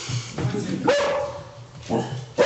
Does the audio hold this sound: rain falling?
no